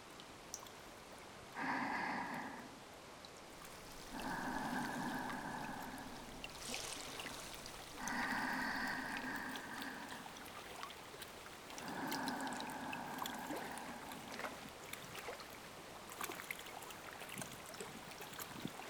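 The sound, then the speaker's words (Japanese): A babbling river stream flows steadily, its rushing, trickling water continuous throughout, while several brief tonal bursts rise and fade over it at intervals. “いい音でしょう。川のせせらぎ。”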